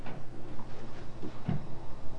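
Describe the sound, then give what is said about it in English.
A child bumps their head against a door: a dull thud stands out midway, amid softer knocking and room noise, with no one talking. “Now you're banging your head on the door.”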